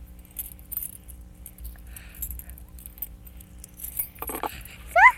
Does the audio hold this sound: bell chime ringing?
no